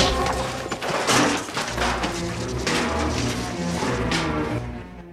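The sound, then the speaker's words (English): A punch lands with a hard thud as Max punches Papagallo in the face, followed by Papagallo tumbling to the ground clutching his wounded hip, with several dull impacts over a loud, dense wash of soundtrack noise. “Max punches Papagallo in the face and he tumbles to the ground, clutching his wounded hip.”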